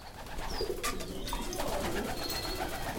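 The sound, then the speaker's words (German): About two dozen excited white pigeons coo and murmur continuously in their wooden loft on a university biology campus in Martinsried near Munich, with bursts of wing flapping and rustling mixed in, fairly loud throughout. “Aufgeregt flattern und schnattern sie durcheinander, die vielleicht 2 Dutzend weißen Tauben in ihrem Holzverschlag auf dem Biocampus der LMU in Martinsried bei München.”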